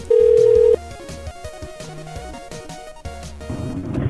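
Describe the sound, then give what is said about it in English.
A loud, steady telephone tone sounds for under a second, followed by a quieter, busy melodic ringback tune that plays on through the line of an outgoing call to a cell phone number, with no one talking. “has a cell phone number also. We're going to try that one.”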